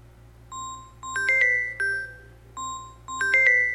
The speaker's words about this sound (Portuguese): O comercial todo tocando esse telefone aqui, rapaz. Esse povo não cansa não, gente. E olha que já teve até uma determinação aí para essas operadoras pararem de fazer isso. Rapaz, é uma chatice o dia todo, cara.